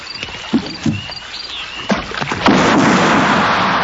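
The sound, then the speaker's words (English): Oars dip and splash in a slow rhythm as a rowing boat moves through water at night, a couple of distinct strokes followed by a steady rush of water, with no voices. “Is there someone in a boat out there?”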